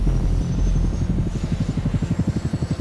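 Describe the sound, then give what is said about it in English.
A Coast Guard helicopter from Air Station Sitka flies out past Sitka Sound in strong winds, its rotor blades beating out a loud, rapid, rhythmic thumping over a low engine rumble, with no voices. “Air Station Sitka has only one more helicopter at their disposal.”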